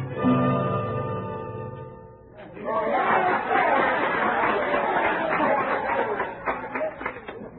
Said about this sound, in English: What's that crowd down the street? It's a medicine show